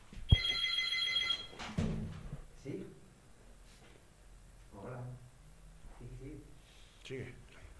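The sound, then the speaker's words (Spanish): A telephone bell rings loudly for about a second at the start in a radio studio, a bright rattling trill, followed by a clunk and then people talking as a caller's call is picked up and then drops. “Coged el teléfono, por favor.”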